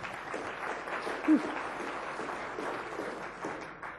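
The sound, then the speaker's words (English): A golf clap: soft, polite applause from a small group, a steady patter of light claps lasting about four seconds, with a brief faint murmur of voices partway through. “That's a golf clap right there.”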